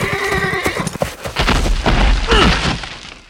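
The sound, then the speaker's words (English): A lame horse whinnies loudly and shakily as its rider kicks it to make it get up, followed by sharp hoof clops and heavy thuds, then a low rumbling crash as the horse tries once more to rise and falls again. “He kicked the horse, trying to make it get up. The horse tried one more time and fell again.”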